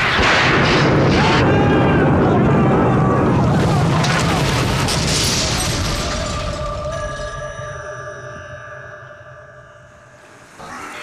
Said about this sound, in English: The lightning struck, the boat exploded, and here we are, washed up on the shores of the great desert.